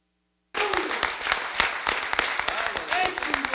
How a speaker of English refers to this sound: Man. Well, let's see. Can we give everybody up here a hand, a clap of appreciation? Amen. Amen.